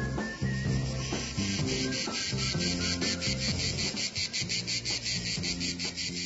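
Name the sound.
crickets chirping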